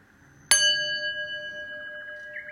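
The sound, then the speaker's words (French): A single meditation gong strike rings out clearly after a moment of quiet, its bright metallic tone shimmering and slowly fading as it sustains to the end, with no voices. “Et au son du gong, tranquillement, je remettrai mon corps en mouvement.”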